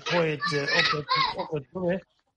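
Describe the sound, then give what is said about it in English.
Children playing, their high-pitched voices calling out in lively, bursting phrases for a couple of seconds, fairly clear and prominent, with no other talk over them. “There's some kids playing over there.”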